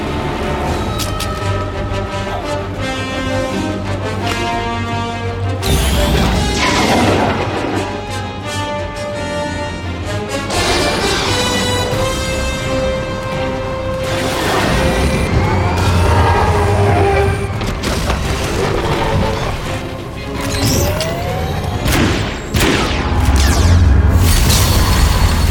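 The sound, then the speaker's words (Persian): A loud, continuous barrage of weapon fire and booming explosions, dense and chaotic, with wailing, siren-like tones sweeping through the din and no talking. “هیچ تأثیری روش نداره. فقط شلیک کن.”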